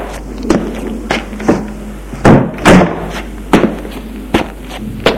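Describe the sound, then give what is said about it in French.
A woman pushes a door shut after a man enters, amid a run of sharp wooden thuds and knocks, about ten loud impacts spaced irregularly over a low steady hum, with no one speaking. “Il entre. Elle ferme la porte.”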